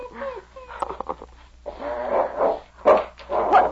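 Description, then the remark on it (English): A dog, King, growls low and rough, then breaks into a few loud, sharp barks in quick succession, with harsh snarling between the bursts. “Hang on to that dog.”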